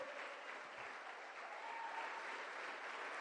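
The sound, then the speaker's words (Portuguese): An audience claps steadily for several seconds in praise of Jesus, a dense, continuous wash of applause with no voices clearly standing out. “Dá um glória. Aplauda esse Jesus maravilhoso.”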